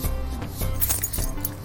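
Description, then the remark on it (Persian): Metallic clinking and jingling of a key or bunch of keys being handed over, in a few bright bursts over a low steady background hum. “بیا بابا جون، اینم کلید.”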